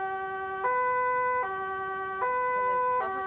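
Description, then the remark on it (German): An electronic toy car siren, switched on by pressing a red button with the foot, alternates steadily between two tones, a low note and a higher one, switching about every three-quarters of a second in a bright, buzzy, harmonic-rich wail with no talking. “Also ich drücke jetzt auf das Auto mit der Glühbirne”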